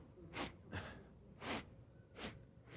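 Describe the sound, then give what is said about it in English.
A person imitates sniffing through the nose: four short, sharp, breathy sniffs at uneven intervals, fairly loud, with no talking in between. “And as they put it on there, as soon as he woke up, he started sniffing.”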